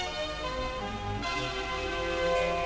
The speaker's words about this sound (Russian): Где-то вдали как будто раздался колокольный звон, и мальчик потерял сознание.